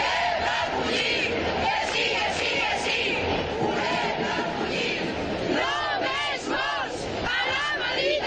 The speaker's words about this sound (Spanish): Los manifestantes se han solidarizado con gritos de «Queremos acoger», «Ninguna persona es ilegal» y «No más muertes en el Mediterráneo».